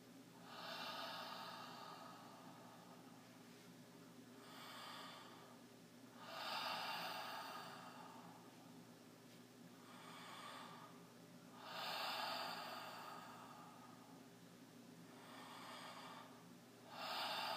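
Slow, deep breaths drawn in and pushed out through a mouth shaped in an open O during a guided breathing exercise, each a broad airy rush repeating every few seconds in a steady rhythm, with no talking.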